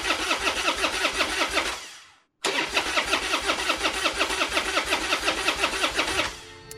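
A car engine cranks over and over without catching at the start of a song, two rapid rhythmic bursts of the starter separated by a brief pause, loud with no voices.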